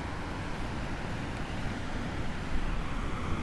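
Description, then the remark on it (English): Steady wind rushes across the microphone at a huge lake, with a low, rumbling roar of waves rolling in onto the shore beneath it, swelling slightly toward the end. No voices are heard. “And just, you know, the wind is still, it's not as windy as before, but still kind of windy. The waves are pretty decent. Just watching the waves roll in.”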